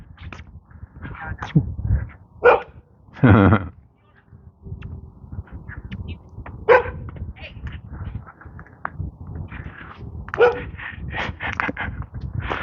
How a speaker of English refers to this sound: black lab on the corner here, standing up for his territory.